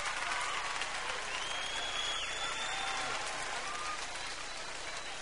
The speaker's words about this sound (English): I see y'all some disillusioned ladies clapping right now.